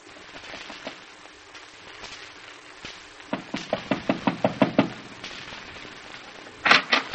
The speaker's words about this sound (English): But you didn't answer when I knocked on the door.